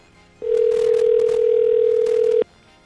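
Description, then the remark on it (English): A phone line ringing on the other end after a number is dialed: one steady, two-second electronic ring tone, loud and clear, with no voices, followed by quiet. “It's ringing. It worked.”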